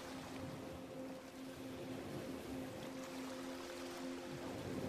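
A steady, unbroken wash of ocean waves lapping at the shore hisses across the whole clip, with a low, even tonal hum sustained underneath. No one speaks.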